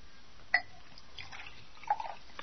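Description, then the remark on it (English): Water poured from a carafe into a glass: quiet splashes, a short, bright trickle, a soft gap, then a few more drips and splashes near the end. No one speaks. “Would you pour me a glass of water? There's a carafe here on the table.”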